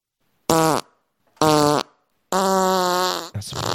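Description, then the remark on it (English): Three loud, buzzy fart sound effects in a row, played by pressing a button: two short blasts, then a longer drawn-out one that gets cut off abruptly as another begins. No one talks. “Sorry, I interrupted my own fart there.”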